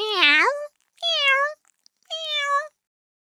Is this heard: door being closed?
no